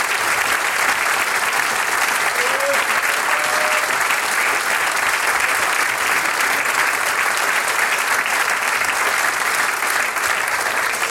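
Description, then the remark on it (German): An audience applauds the clarinetists of the Graz Philharmonic after their performance. It is a dense, even wash of clapping that holds at a constant loud level for about eleven seconds with no talking over it. “Das ist euer Applaus.”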